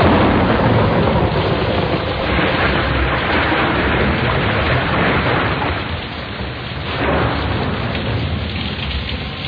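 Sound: rain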